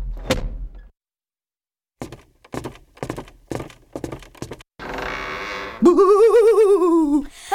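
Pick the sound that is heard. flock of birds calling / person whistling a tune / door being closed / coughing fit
door being closed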